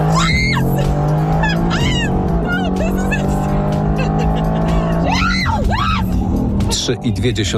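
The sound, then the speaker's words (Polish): A Mercedes-AMG sports car, driven by seven-time F1 champion Lewis Hamilton with Kendall Jenner aboard in Miami, roars steadily as it accelerates hard. Passengers' excited voices and shrieks rise over the constant engine drone. The car has a top speed of up to 315 km/h. “Było miło i śmiesznie do czasu, gdy mistrz nie docisnął pedału gazu.”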